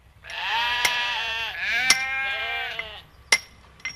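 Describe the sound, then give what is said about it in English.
Sheep bleat loudly on a large pastoral sheep station in two long, quavering calls, with a few sharp clinking knocks scattered in between and at the end. “They've done a pretty good job today on the nation's biggest pastoral sheep station, which is still riding high on the sheep's back, riding a little bit higher this year too.”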